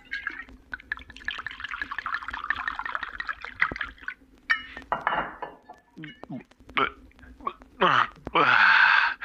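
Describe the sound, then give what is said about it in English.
Water pours into a glass for a few seconds, followed by light clinks of glassware and then a series of wet gulps as someone drinks the glass of water. “Maybe I just need a glass of water.”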